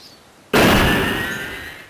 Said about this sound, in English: To his surprise, he found an old monkey lying on a stone slab with his tail blocking the narrow forest path. The monkey was waving his tail, dashing it on the ground and causing the tremendous thumping sound.